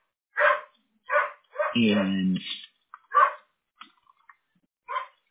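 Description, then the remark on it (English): A pet dog barks several times in short, sharp bursts, with one longer whining yelp in the middle, loud, then falls quiet before a final bark. “My dog.”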